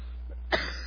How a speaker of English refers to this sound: I'm coughing now.